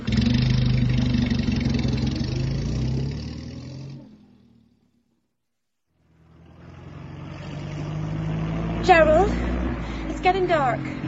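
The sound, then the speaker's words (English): A car engine rumbles steadily, dies away into a few seconds of silence, then rumbles back up and keeps running, with brief high, wavering tones over it near the end. “And then the engine gave me trouble.”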